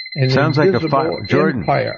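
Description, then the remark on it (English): A fire alarm emits a steady, piercing high-pitched tone that holds unbroken for the full two seconds, sitting beneath a person talking loudly and continuously in the foreground. “It sounds like a fire alarm is going off.”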